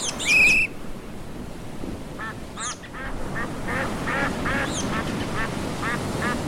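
Ducks quack in a loose series of short nasal calls over a steady wash of outdoor water noise, opening with a louder, shriller call before the quacks continue.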